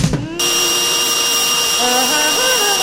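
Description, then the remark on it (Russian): A large, human-sized vacuum cleaner switches on abruptly and keeps running with a loud, steady, high-pitched motor whine and rushing suction, having sucked in the cartoon character Nolik, while a voice briefly sounds beneath it. “Нолика в пылесос засосала!”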